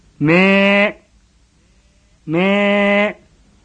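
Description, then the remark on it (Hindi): A lost sheep bleats twice on a cold, dark night, each call a loud, sustained wavering baa lasting under a second, separated by a short pause, with no one talking. “मैं सुने के लिए कुछ देर रुका पर अंधेरी रात में वही का अपनी आवाज सुनाई पड़ी। दोबारा वो आवाज दिस।”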